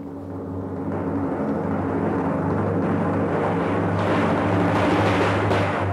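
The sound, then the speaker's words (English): A steady, continuous drum roll swells up in the first second, then rumbles on loudly and evenly for several seconds with no one talking over it. “I'm going to play a drum roll.”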